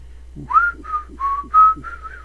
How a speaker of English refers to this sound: This half hour, we're exploring music of whistling. That's right, whistling music.